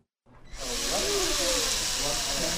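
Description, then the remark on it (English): After a brief silence, a power drill or electric screwdriver starts up and whirs steadily with a loud, hissing buzz as middle and high school students screw together plastic drone parts in Wrangell High School's shop. Faint voices murmur underneath. “Plastic pieces lie all over a communal table as students screw and zip tie their machines together.”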